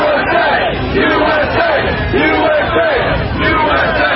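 protest crowd chanting

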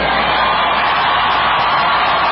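crowd cheering and applauding

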